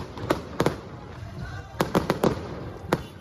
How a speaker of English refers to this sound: Fireworks, drums and an excited crowd. This certainly felt like a victory rally, but the results aren't final and this party isn't in the lead.